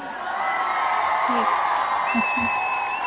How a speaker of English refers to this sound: And let me just give you my customary round of applause right here.